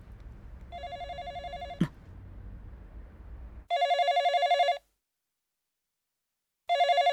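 A telephone rings in loud, trilling bursts, each about a second long with pauses between. Low rumbling noise sits under the first ring, then quiet gaps separate the later rings.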